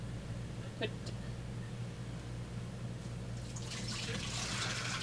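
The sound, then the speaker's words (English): Hands are rinsed under clean running water: a steady splashing hiss that swells louder and brighter toward the end, over a constant low hum. “Remember, you can stick your hands on that water because it's clean.”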